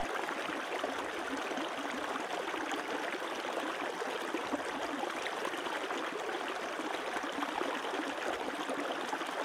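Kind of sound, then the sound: nature, flowing stream water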